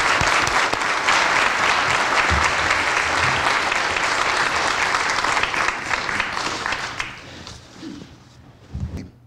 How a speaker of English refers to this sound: Thank you all for your service. Give a round of applause.